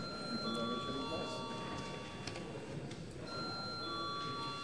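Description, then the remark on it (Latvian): A steady electric voting bell rings in parliament before a vote, in a long continuous tone, briefly drops out midway, then resumes, with a low murmur of voices and chamber noise beneath it. “uzstāj uz balsojumu, lūdzu zvanu.”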